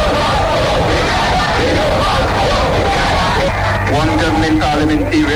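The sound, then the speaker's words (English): A large crowd of striking workers on a national strike called by union bosses, assembled outside government headquarters in the Dominican capital in the morning, shouts and yells continuously, a loud, dense roar of overlapping voices with rising cries breaking through near the end. “Obeying a call by union bosses for national strike, workers assembled outside of government headquarters this morning, bringing a halt to commercial activity in the Dominican capital.”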